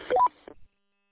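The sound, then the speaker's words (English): A quick rising three-note electronic roger beep from a Midland 15-watt radio closes a transmission through a repeater, followed by a short burst of static squelch tail and then silence. “You've got to dig into the settings on that Midland and turn the Roger beep off against the rules for the repeaters.”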